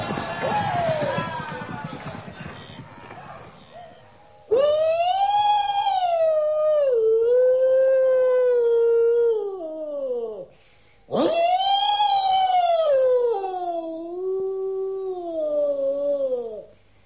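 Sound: wolves howling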